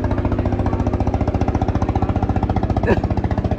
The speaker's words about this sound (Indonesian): Bentar, kita lewatin ketek dulu ya, kawan-kawan ya. Iya. Karena kita tek di pinggir sungai. Jadi banyak suara-suara enak.